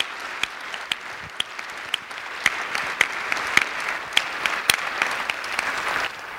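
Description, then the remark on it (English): Steady audience applause for four organizations, including a Catholic church and the YMCA of Eagan, receiving an award from the Green Ribbon Initiatives of Eagan; dense clapping with a few sharper individual claps standing out, sustained at a moderate level for several seconds with no talking. “One more time, a round of applause for the four organizations.”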